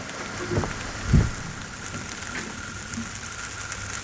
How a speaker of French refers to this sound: Mais nous, on a réussi à capter cette combustion. On entend les petites bulles de résine qui éclatent. Qu'on entend là tout de suite, à peine si vous tendez vraiment l'oreille.